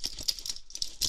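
A German Shepherd's metal leash chain rattles and jingles in several quick, bright bursts as it is handed over, moderately loud, with a brief pause before a final clinking shake. No voices.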